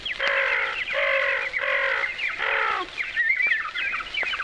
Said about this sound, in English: And the birds to sing and cry.